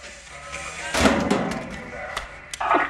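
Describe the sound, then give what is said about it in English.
A metal locker door, with a police poster pinned inside, slams shut in a corridor of a quiet building with a sharp clang that rings briefly, followed by a few lighter clicks and knocks of handling. “A police poster for four wanted individuals is pinned to the inside of his locker door.”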